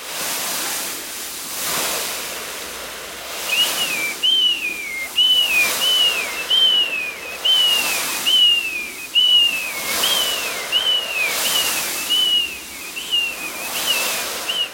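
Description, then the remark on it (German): Rhythmic swells of hissing noise rise and fall like waves breaking, while a steady string of high, falling whistled chirps mimics gulls calling overhead; a homemade sound-effect imitation with no talking. “Es klang wie, wenn man am Meer ist und dann fliegen da halt so Möwen.”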